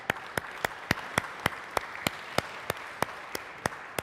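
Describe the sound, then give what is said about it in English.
A steady wash of audience applause at the start of a morning conference session, with one set of sharp, evenly spaced claps standing out in a quick regular rhythm throughout. No one speaks. “So let's give us all a round of applause.”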